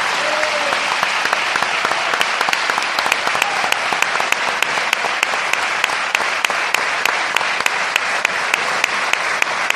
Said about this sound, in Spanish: Así que evidentemente pues es una oportunidad maravillosa estar aquí, y por eso, porque esto es radio, os pido, para empezar el programa, pues un aplauso para que dé fe de que estáis aquí.